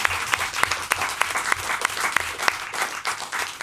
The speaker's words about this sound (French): C'est joli. Philosophe. On peut applaudir.